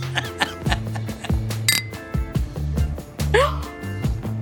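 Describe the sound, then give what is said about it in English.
Glasses, one a very small glass of beer, clink together in a toast, one bright ringing chime midway through, heard over steady low background tones and some murmured voices. “Cheers. Cheers.”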